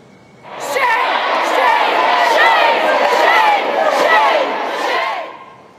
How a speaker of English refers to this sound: Protesters can be heard screaming shame as they're told to leave the gallery.